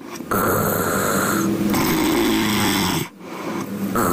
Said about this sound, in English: Do we still have the audio of … snores somewhere back there?